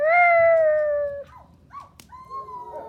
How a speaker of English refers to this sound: Look, out there, on the front garden, in the road. Wolves. It must be his pack. They've come for him.